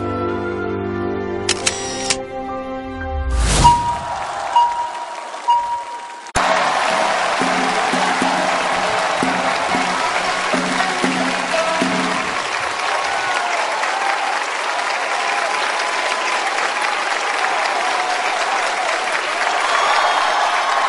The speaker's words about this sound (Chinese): 感谢朋友们的热情掌声